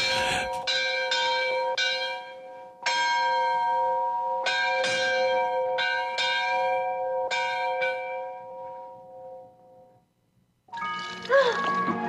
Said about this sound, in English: You won't believe me, but with my head underwater, I actually heard bells ringing.